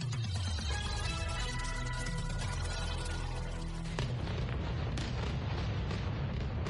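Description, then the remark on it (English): A huge explosion rumbles loudly, a dense, booming roar that sustains throughout, with a sharp fresh burst partway through followed by continued heavy rumbling, in the vicinity of Beirut's main airport in Lebanon in the early hours of Friday. No voices are heard. “Huge explosion shook the sky in the vicinity of Beirut's main airport in the early hours of Friday.”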